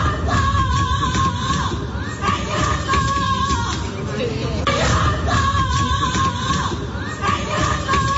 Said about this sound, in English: So she was lying on the floor and she was yelling, as you could hear there, and then kicking her feet.